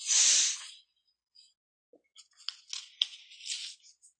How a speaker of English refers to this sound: Sounds like an espresso machine expressing.